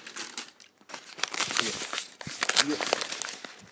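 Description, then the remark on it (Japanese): Steady crinkling and rustling of a plastic card pack being cut open with scissors, with sharp crackly bursts throughout and a voice briefly murmuring underneath. “ちょっと待ってね、開けるよ。ちょっとハサミ入れましょう。”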